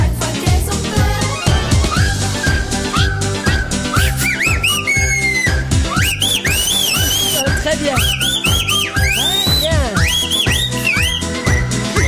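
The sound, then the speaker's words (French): The whole audience in a hall whistles a bright, bouncy melody along to a hit song with a steady, thumping beat, the whistled notes rising and swooping in short phrases above loud music. “Toute la salle siffle, alors tu vois.”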